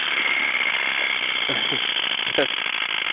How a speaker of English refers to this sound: Hey, are those Uncle Floyd's chattering teeth there? Those are the chattering teeth! And I have the Uncle Floyd's chattering teeth, and they're on my desk